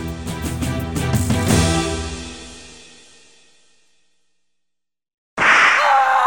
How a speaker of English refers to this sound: The bits of jagged metal braided into the leather strands at the whip's end easily cut into the victim's back.